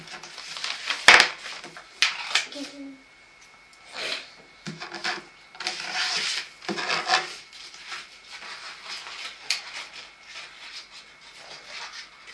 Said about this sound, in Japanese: 点線のところをこうちょっとこうちょきちょきちょきちょきちょきちょきちょき切って切ってけば。